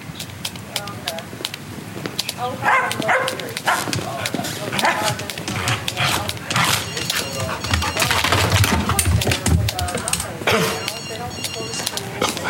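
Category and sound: animal, dog barking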